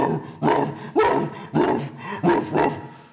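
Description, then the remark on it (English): A dog barks six times in quick succession, loud, with short uneven pauses between the deep, gruff barks and no one talking. “Six barks.”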